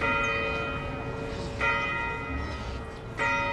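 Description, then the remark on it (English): The bell in the domed clock tower of the old courthouse, built 1903, at the center of the Monroeville town square tolls the hour: three deep, resonant strikes spaced evenly about a second and a half apart, each ringing out and overlapping the next, with no voices. “Its domed clock tower chimes on the hour.”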